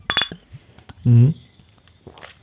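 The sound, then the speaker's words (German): A few quick, bright glass clinks ring out at the start as glasses of a cola-and-orange drink are clinked in a toast, followed by a loud, short shout from a voice and some faint rustling afterward. “Prost!”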